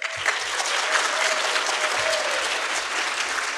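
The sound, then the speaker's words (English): A crowd claps steadily for a few seconds, a dense burst of applause that stays loud and even throughout, with a few low murmurs and thumps underneath. “clap if you think he got it.”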